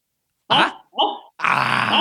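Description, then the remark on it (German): A human voice imitates the puppet dog Strolchi from a Kasperl puppet show, giving two short, rough barks followed by a longer, raspy growling yelp, loud with no other talk. “Strolchi soll gleich mal bellen.”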